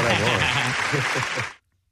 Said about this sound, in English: Yeah, gives himself applause, of course. There you go,